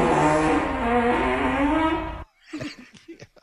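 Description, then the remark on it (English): A long, low, buzzy fart sound effect drones for about two seconds and then cuts off, followed by a handful of short, sputtering bursts. “Well, a quarter of it's playing farts.”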